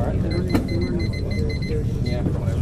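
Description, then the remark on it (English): A run of short electronic quiz buzzer beeps sounds repeatedly in quick, uneven succession as the buzzers are checked before an undergraduate quiz final between Ohio State and Harvard, over a murmur of background voices and noise. “Okay, buzzers have been checked.”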